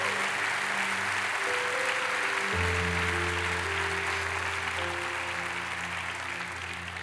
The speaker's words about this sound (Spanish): Si yo morí por ti en esa cruz, ¿cuánto más estaré contigo para darle valor a ese sacrificio? ¿Cuánto le pueden dar un aplauso al Señor por eso?